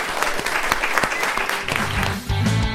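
Audience applause for the contestants and Death at the end of a round: dense, steady clapping from many hands with a few sharp louder claps, and voices rising into the noise toward the end.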